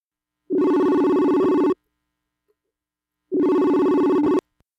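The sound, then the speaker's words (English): A telephone rings for an incoming call to the KWMR radio show from guests calling from Bavaria, Germany, two loud buzzing bursts of about a second each with a pause between, steady and tonal with a rapid warble, and no one talking. “joining us from Germany, from Bavaria, calling us today.”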